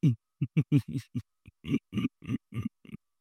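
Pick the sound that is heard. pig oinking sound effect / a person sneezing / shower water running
pig oinking sound effect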